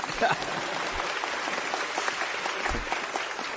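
A group of people claps their hands together in a steady burst of applause, dense and lasting a few seconds without pause.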